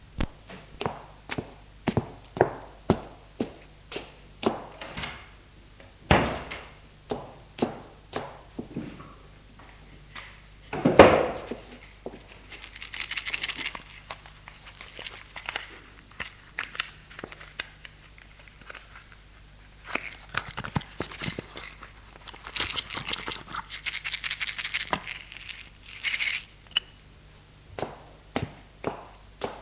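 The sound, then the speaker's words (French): Steady footsteps walk at a regular pace into a bathroom, followed by a medicine cabinet door opening and two tablets being taken out, with clicks and rattles and no one speaking. “Je vais dans la salle de bain prendre dans la pharmacie 2 comprimés pour qu'il puisse dormir.”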